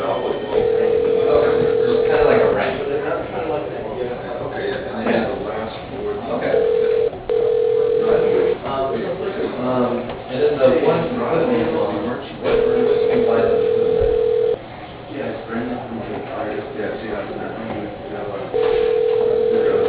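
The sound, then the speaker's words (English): A telephone line after an extension is dialed on a call to Universal Laser Systems: a steady mid-pitched tone sounds for about two seconds, then pauses, repeating in a regular ringing cadence over a busy background of muffled sound. “Note your party's extension number. Please dial it now.”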